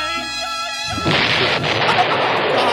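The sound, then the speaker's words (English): A high whining tone gives way after about a second to a loud, sustained explosion: a dense, roaring blast of noise that rumbles on to the end, with no voices. “That's so loud. So loud. It's an explosion.”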